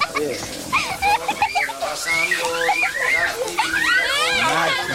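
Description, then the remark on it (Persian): Several children shout, squeal and chatter at once in a lively, noisy burst of play that stays loud for the whole stretch, with high excited voices overlapping. “بچه ها بچه ها خواهش میکنم ازت برین توش پس خونه بی سر صدا بازی کنی.”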